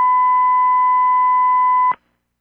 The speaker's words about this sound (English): Okay, I don't know if that long beep was a beep from a caller. Is somebody on the line?